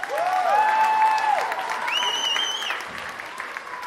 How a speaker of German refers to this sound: Wie man am Applaus hören kann, hat es den Zuschauern gefallen.